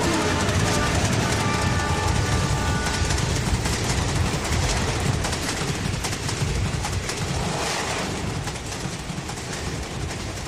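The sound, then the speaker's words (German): A train approaches along the rails, rumbling steadily: a loud, continuous roar with clattering wheels and a faint high tonal squeal early on, sustained throughout without pause. “Es scheint so, als ob sich da ein Zug...”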